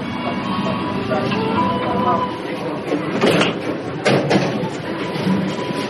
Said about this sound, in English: And of course, he walks away, and she thinks he's banging on the door again, being impatient.